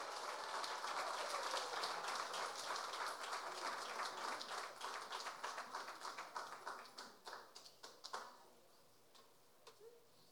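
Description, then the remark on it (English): An audience gives a round of applause for a speaker being introduced, clapping steadily for several seconds in a dense wash that thins into scattered individual claps before fading out. No one speaks. “All right, give us a round of applause”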